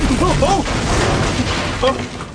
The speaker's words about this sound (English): That may well be the foremast gone by the board.